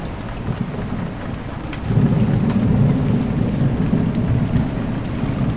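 Heavy rain hisses steadily during a storm at a boat rolling at anchor, while deep thunder from lightning less than a mile away rumbles in, swelling louder about two seconds in and rolling on to the end. Scattered sharp drips patter, and no one speaks.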